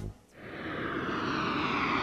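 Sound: airplane engine flying overhead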